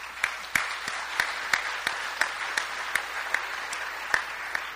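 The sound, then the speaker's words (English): An audience applauds steadily, a dense wash of many hands clapping with a few sharper claps standing out at a regular rhythm, moderately loud and continuing throughout without any voices. “That's I'm going to clap for that.”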